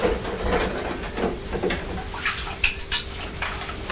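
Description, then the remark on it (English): A spoon that fell on the floor being rinsed in a washing-up bowl: steady watery swishing with a couple of sharp metallic clinks against the bowl near the end. No one speaks. “So I'll put it back in the washing up bowl for a few seconds. That's right, I'll rinse it off and it's all right now.”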